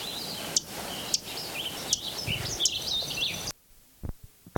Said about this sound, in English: Third Lincoln Sparrow singing.